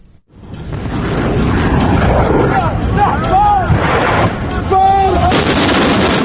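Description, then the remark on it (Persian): Loud, dense gunfire from the weapons of opponents of Muammar Gaddafi's government, fighting at the gates of Tripoli, Libya; continuous and chaotic with no clear gaps, while shouting voices rise briefly over the din. “حالا دیگر صدای شلیک سلاح‌های مخالفان حکومت معمر قذافی رهبر لیبی در ترابلس هم شنیده می‌شود.”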